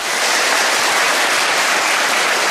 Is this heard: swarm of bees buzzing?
no